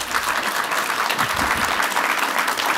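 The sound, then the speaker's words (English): A crowd applauding steadily after a mention of justice, a dense wash of many hands clapping at an even, loud level throughout, with no voices standing out. “justice got more applause than spreadsheets”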